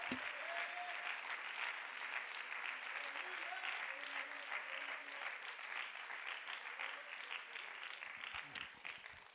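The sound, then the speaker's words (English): A crowd claps hands to the Lord, steadily in a dense, continuous wash of applause lasting several seconds, with a few faint voices calling out underneath before it begins to thin at the end. “I think we already clapped hands to the Lord, but I wish someone would just clap hands if you know that God's promise is coming into fulfillment in your life.”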